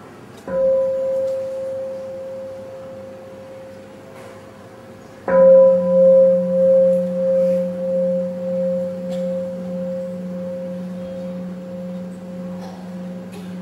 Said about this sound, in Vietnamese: Sau khi mà chúng ta thỉnh một cái tiếng nhấp hoặc là tiếng thức á, thì chúng ta phải để cho người ta thì giờ để người ta thở vào, thở ra, để ta chuẩn bị đón tiếp tiếng chuông. Và bây giờ đến tiếng chuông.